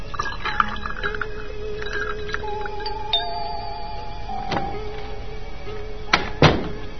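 Water pours steadily into glasses with a rising, ringing tone, followed by a few sharp clinks and knocks of ice and glassware near the end, fairly quiet.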